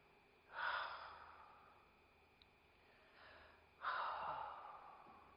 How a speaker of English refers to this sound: Do that this morning. Just do a little action. Do a deep breath as though Jesus, imagine Jesus breathing into you now.